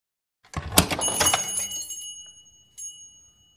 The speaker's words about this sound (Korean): 현관에 종이 울리더니 여자 두 명이 호텔로 들어왔다.